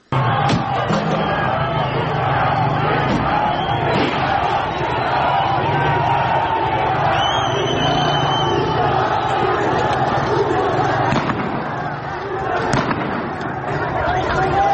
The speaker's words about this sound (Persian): این صدا مربوط به اعتراضات تهران بود.